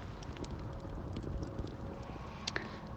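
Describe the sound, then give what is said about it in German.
A full-moon bonfire, with things being thrown into it, crackles with scattered, irregular sharp pops and snaps over a steady low rushing hiss, one louder cluster of crackles standing out near the end. No one speaks. “Und vielleicht hört ihr im Hintergrund das Knistern.”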